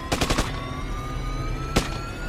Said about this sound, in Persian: بعدش هم سر و صدای تیراندازی.